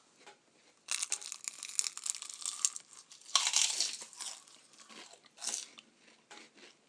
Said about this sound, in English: And then we all crunch together.